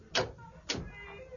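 A door is opened with two short, sharp clunks about half a second apart, likely the latch and then the swing, followed by a faint lingering creak. Fairly quiet.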